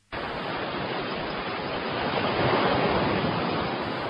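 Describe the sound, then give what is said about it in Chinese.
Steady ocean surf at a summer seaside washes continuously, a broad rushing roar that swells slightly louder midway through before easing. No voices, just the constant hiss and rumble of waves. “夏天的大海边有很多来游泳的人，还有很多来放风筝的人。”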